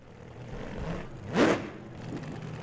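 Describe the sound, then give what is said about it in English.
A car engine revs up in a single rising surge midway through, swelling briefly louder over a steady low rumble of engine noise, with no voices. “Hey, a funny car.”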